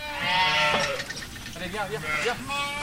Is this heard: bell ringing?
no